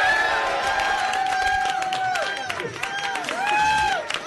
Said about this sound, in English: Listen to them doing it while applauding. Yeah, yeah, it's a sign of solidarity.